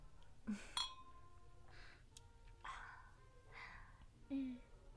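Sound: glasses clinking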